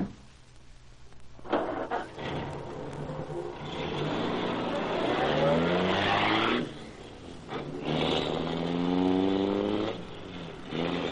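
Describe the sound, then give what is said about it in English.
A car, the Black Beauty, roars to life and pulls away, revving loudly in two long surges with a steadily rising whine as it accelerates. No one speaks. “You're going to ride in the Black Beauty.”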